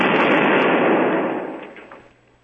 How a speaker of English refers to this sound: I don't know. I don't like explosions, okay?